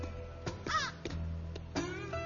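A hungry crow caws several times in short, harsh bursts by a roadside in a national park in Florida, clear, with a faint outdoor hum in the background.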